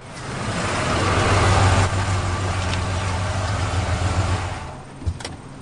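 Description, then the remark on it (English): A junk-hauling truck's engine runs loud, a steady low rumble that holds for several seconds, then eases off and cuts out with a brief clunk near the end. “That's a good-looking truck.”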